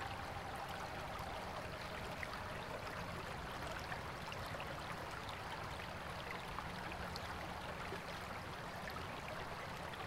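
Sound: gently flowing stream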